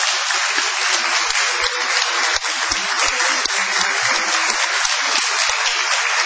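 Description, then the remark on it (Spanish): A large audience claps steadily throughout, a dense, sustained, loud ovation of many hands with no pauses, for the performers of the radio show La venganza será terrible at Radio del Plata, with no voices rising above it. “Prolonguemos nuestra ovación para honrar a Patricio Barton.”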